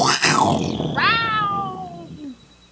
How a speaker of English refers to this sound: For others, the scream of the panther in the night.